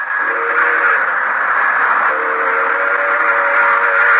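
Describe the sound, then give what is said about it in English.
An express train roars past at night in San Amado, a prairie town, its whistle blowing one long, steady, piercing blast over the rumble. The sound stays loud and unbroken throughout, with no voices. “An express train roaring by.”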